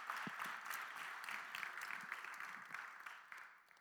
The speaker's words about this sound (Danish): Yes, det synes jeg lige, vi skal give en klap til alle for. Og til Gud for.